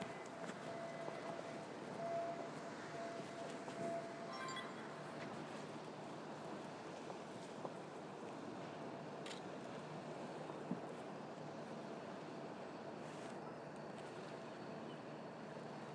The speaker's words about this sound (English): So for the camera, this is morning, Sunday morning. In Venice, with one very, very large cruise ship coming along. Costa. Oh, same cruise line.